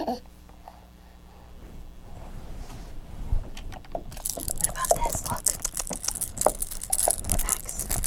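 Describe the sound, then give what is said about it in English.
A bright, clattering metallic jangle starts about halfway through, with quick irregular clinks, as if a bunch of keys is being shaken. Before it there are only faint quiet rustles. “Is that keys? Want some keys?”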